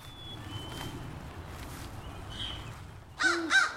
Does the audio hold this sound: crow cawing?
yes